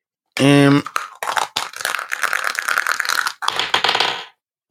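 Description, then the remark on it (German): A short vocal sound is followed by about three seconds of dense clattering as a twenty-sided die tumbles and rattles across a hard surface, with a brief pause before a final rolling burst. “Es ist ein 20-seitiger Würfel”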